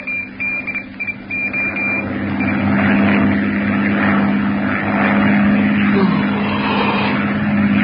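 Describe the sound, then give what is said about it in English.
A propeller airplane engine drones steadily and loudly in flight in its fifth hour, having burned about 300 gallons of fuel, a continuous low hum with a rough whirring edge. A few faint intermittent beeps sound over it at the start. “Engine's burned about 300 gallons so far.”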